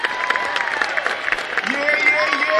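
A large crowd applauds steadily and loudly, a dense wash of clapping mixed with scattered shouts and cheers that swells slightly toward the end.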